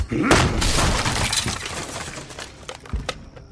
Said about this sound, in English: Break down the door.